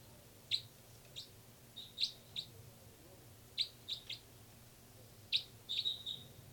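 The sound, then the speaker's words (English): Birds chirp in short, sharp, high-pitched bursts, arriving in small irregular clusters of two or three notes, set against a faint steady low hum with no one talking. “Also on the side are birds 318 and 298.”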